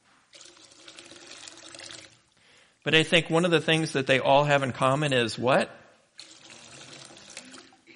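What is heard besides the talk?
water splashing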